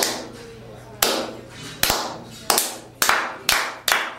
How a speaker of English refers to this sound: Every time that we wrestle, they go out there and they clap. It's like this. It's like